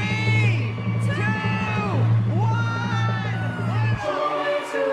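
A large crowd in New York City cheers and whoops loudly and continuously at the lighting of the 74-foot Norway spruce Christmas tree in Rockefeller Center, many voices overlapping in a dense, sustained roar that dips briefly near the end before swelling again.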